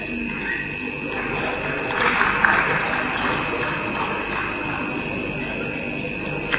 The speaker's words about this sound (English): And this is the first sound of clapping that we heard through the whole meeting.